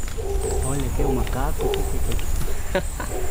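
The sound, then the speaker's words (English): A troop of howler monkeys roars steadily from the canopy of the Rio Piro rainforest in Costa Rica, deep rasping howls overlapping in a continuous chorus over a low rumbling forest background. “Only a few steps into the forest, we hear a group of howler monkeys in the canopy.”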